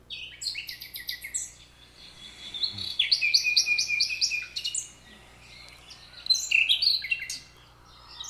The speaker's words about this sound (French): Le rossignol Philomène. Vous l'entendez de jour, même de nuit